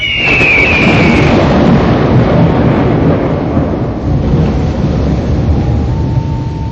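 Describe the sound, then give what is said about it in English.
Loud thunder rolls and rumbles continuously for several seconds, a dense low roar with no voices; a brief high whistling tone sounds at the very start. “He came in thunder.”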